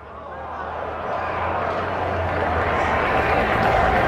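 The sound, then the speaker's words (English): A ballpark crowd cheers a fan who has made a nice catch of a foul ball for a souvenir. The cheer is a broad, steady roar that swells over the first second and then holds loud and sustained, with a low rumble running underneath. “Gets a rousing cheer from the folks around him.”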